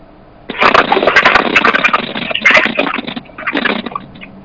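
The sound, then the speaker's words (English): A bus engine roars, heard from inside the bus as someone moves to the back of it. It is a loud, rough, hissing rumble that kicks in after a moment, dips briefly twice, and surges back before fading. No one speaks. “Just moving to the back of the bus.”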